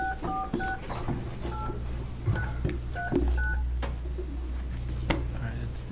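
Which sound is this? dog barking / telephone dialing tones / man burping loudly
telephone dialing tones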